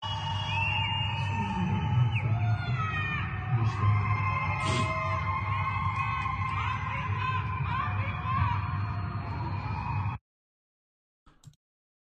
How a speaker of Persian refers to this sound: کل دارن میزنن مردم، کل میزنن.